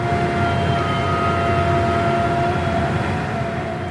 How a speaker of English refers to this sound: To start out, I want to play you a piece of sound. And imagine you live right next door to this drill rig.